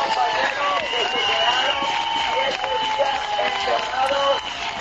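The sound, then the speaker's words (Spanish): Steady applause from a crowd at a protest camp welcoming workers who spent seven days locked inside the SEPI headquarters in Madrid, mixed with shouting and overlapping voices, loud and continuous throughout the few seconds without a break. “Eran recibidos con estos aplausos.”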